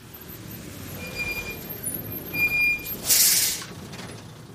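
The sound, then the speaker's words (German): A garbage truck idles at a house in the morning with a steady low engine rumble and faint whining tones, then lets out one sharp, loud hiss of its air brakes before the rumble continues. “Heute Morgen kam die Müllabfuhr zu unserem Haus.”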